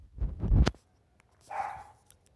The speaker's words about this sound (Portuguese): Vai ficar com o latido dos cachorros, desgraçado, porque ele não cala a boca nunca.